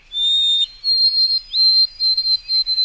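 A white-throated sparrow sings long, clear, pure whistles, a sustained opening note rising to higher held tones that break into quick repeated pulses, loud with no other sounds.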